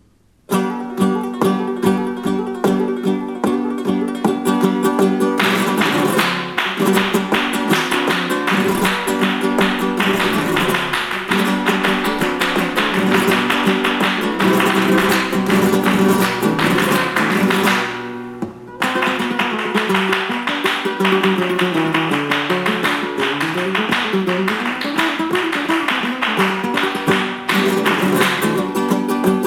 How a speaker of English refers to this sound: And the hand clapping in the cantinas.